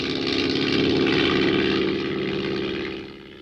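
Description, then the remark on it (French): A small propeller tourist airplane belonging to the Dakar aero club drones steadily overhead, its engine a loud, buzzing hum that holds for a few seconds before easing off slightly at the end. No voices. “Un avion de tourisme appartenant à l'aéroclub de Dakar, a disparu depuis jeudi soir.”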